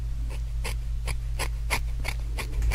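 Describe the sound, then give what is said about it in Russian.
Scissors trimming hair, evening the length of a strand held between the fingers near the temple, about eight crisp snips at a steady, quick rhythm, each a short bright crunch over a low, constant electrical hum. No one speaks. “Я просто расчесочкой провожу по самой ближней пряди волос, останавливаюсь где-то 2 сантиметра до кончика, зажимаю между пальчиками своими и выравниваю длину ножницами.”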